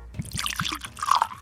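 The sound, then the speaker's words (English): Dubstep-aged bourbon whiskey is poured into a glass: a quick burst of bubbling, gurgling liquid with a few sharp drips and a brighter splash near the end, lasting about a second and a half. “All right, Henry, let me pour you some.”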